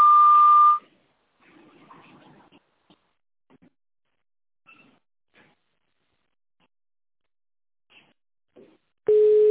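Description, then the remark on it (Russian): A loud, steady telephone tone, the long signal on a sanatorium's automated phone line after which callers switch to tone dialing, sounds near the start, then a quiet stretch with faint line noise, and a second, lower-pitched tone begins abruptly at the end. “После длинного сигнала переведите ваш аппарат в режим тонального набора и наберите внутренний пятизначный номер.”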